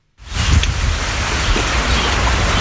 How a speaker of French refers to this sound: La pluie qui est tombée ce week-end sur la forêt de la Chiquitania en Bolivie est un soulagement pour les paysans qui y vivent.